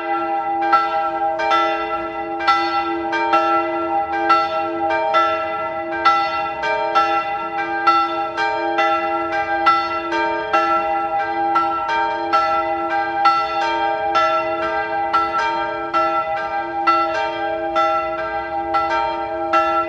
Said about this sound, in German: Es ist 12 Uhr. Sie hören die Glocken der Bürgerspitalkirche in der Stadt Salzburg.